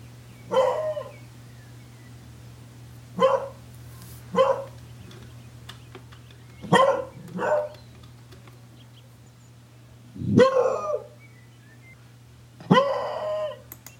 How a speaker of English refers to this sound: And the ones we have at camp, I just love, but they do bark a lot and they do have a unique bark. And here it is.